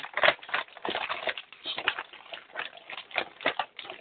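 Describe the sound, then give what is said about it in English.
Papery rustling and flipping of Bible pages, many overlapping soft swishes in an irregular stream, as if several people are turning pages at once to 1 Corinthians chapter 3, with no one talking. “So, and for the, while you're turning over there, and I'm hearing some pages turn,”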